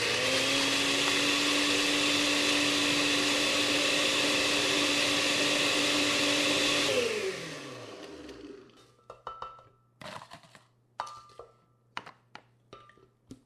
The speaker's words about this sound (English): Then I added 1 cup of crushed ice to my blender and let it rip.